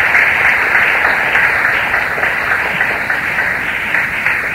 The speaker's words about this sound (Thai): ขอเชิญทุกท่านปรบมือเพื่อขอบพระคุณท่านวิทยากรอีกครั้งหนึ่งครับ